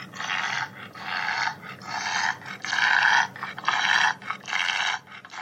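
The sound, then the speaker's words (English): A bulldog's labored, obstructed breathing: six or seven harsh, raspy snorting breaths in a steady in-out rhythm, fairly loud, with no talking. “For example, here is a clip of a bulldog trying to breathe.”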